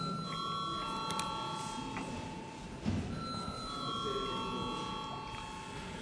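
parliament voting call bell

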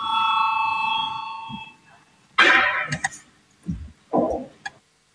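parliamentary voting bell ringing

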